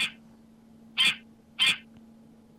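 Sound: goose honking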